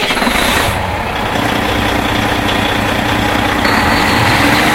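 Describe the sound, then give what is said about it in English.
A single diesel generator kicks on as power switches over from the electric motor, running loud and steady: a deep, throbbing engine rumble, with a thin high whine that drops away early on and a new whistling tone rising near the end. No voices. “We're going to be transitioning to our diesel generator.”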